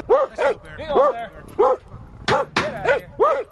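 Dogs lined up on each side of a culvert trap during a bear release bark in quick, uneven bursts, about eight or nine sharp barks in a few seconds, loud, with some yipping and whining mixed in.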